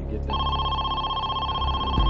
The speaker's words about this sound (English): Just before 1 o'clock in the afternoon, the phone rang again.